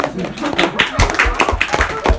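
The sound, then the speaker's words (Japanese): An audience claps their hands together, a steady scattered patter of many overlapping claps lasting a couple of seconds, with some voices murmuring underneath, as they answer by clapping that they want to blame someone or something when something bad happens. “それで拍手で、今結構な数の人が何か嫌なことが起こったら誰かのせいにしたい、何かのせいにしたいっていう風に言ってくれました。”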